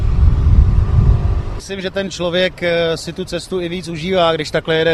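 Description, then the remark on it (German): A motor scooter engine rumbles low as it rides through city traffic in Prague for a moment, then a man starts talking over the faint hum of the ride. “Ich denke, die offene Fahrt durch Prag auf einem Motorroller ist einfach schöner als in einem geschlossenen Auto.”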